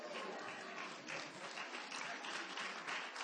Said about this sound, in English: That was a weak clap.